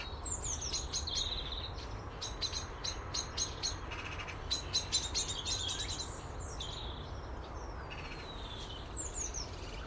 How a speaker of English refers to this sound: Someone's bugging the blackbird.